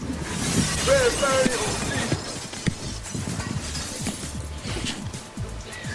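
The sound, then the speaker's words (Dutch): A thrown record smashes and shatters, a bright crunchy crash that breaks into a scatter of clattering fragments, with faint background murmur and scattered knocks afterward. “Nou, die is best wel een beetje kapot.”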